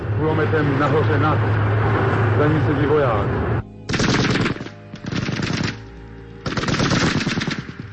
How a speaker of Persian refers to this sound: از بالای همین میدان یک تانک پیش می آید. سربازی مسلسل این تانک را آتش می کند.